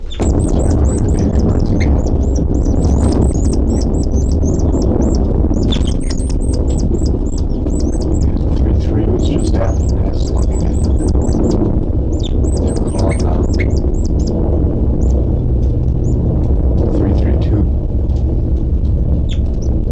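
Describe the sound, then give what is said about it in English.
Rapid, high-pitched chirps of young birds numbered 33 and, occasionally, 327, kept in a cell, come in dense repeated bursts throughout, some sharp squawk-like calls mixed in, over a steady loud low rumble of background noise. “And nothing now except for the calls of 3-3 and occasionally 3-2-7 stuff.”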